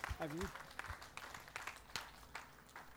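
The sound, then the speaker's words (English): Scattered audience applause at a service, for those who said the dedication prayer for the first time: sharp, irregular claps rising from a soft wash of clapping, with a brief voice calling out at the start. “Now, everyone, give those who did that for the first time a huge round of applause today.”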